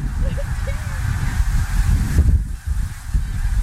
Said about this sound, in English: There's a lot of geese. Look at them out there. See them? Yep. Let's go up there. Oh, look, there's geese.